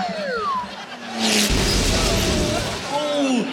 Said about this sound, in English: Load the cannon. Light cannon loaded. Take aim. Take aim. Fire!